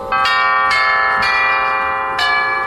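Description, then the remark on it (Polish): Tubular bells built into a pipe organ, not electronic, struck four times at an unhurried, uneven pace, each bright metallic chime ringing on and overlapping the next in a loud, sustained shimmer with no voices. “Te dzwony rurowe rzeczywiście są w tych organach, tak?”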